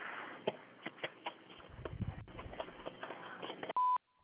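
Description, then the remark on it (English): A single loud, steady electronic beep from an answering machine sounds near the end, following several seconds of faint clicks, knocks and muffled line noise. “Please leave your name, telephone number, and a short message after the beep.”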